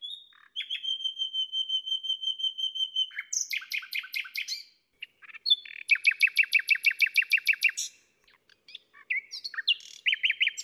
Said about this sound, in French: Et que dire de ce chant formidable? Déjà, c'est énergique, vigoureux, puissant. Le rossignol s'entend à plus d'un kilomètre. Et puis c'est un chant extrêmement varié.